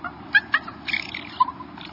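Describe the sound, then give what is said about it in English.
Soft, gentle raven nestling comfort sounds: a handful of brief, quiet chirps and murmurs at uneven intervals over a steady low hum, with no raucous calling. “Raven nestlings sometimes make this same sound after they've been fed.”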